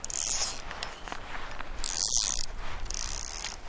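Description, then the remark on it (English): Flies buzz in three high, raspy bursts over a steady soft hiss, with the faint swish of a fishing rod being cast in fly fishing in between, on the bank of the South Catamount Reservoir in Colorado Springs, Colorado. The scene is otherwise quiet and no one speaks. “It's almost silent, aside from the light swish of a rod and the buzz of flies.”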